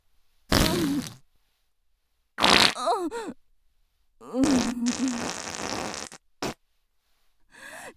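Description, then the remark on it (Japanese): A series of loud farts from a middle-aged woman: about five bursts separated by silence, including a long, sputtering, buzzy one in the middle and a short pop near the end. “音は汚いし臭いし最低ね。”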